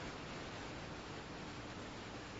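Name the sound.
waterfall pouring water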